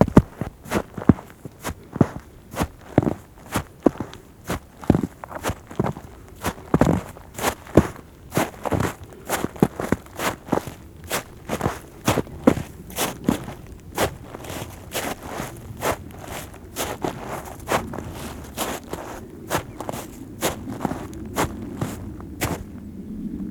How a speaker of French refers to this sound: C'est le son caractéristique d'une petite accumulation de neige sous un tapis de feuilles.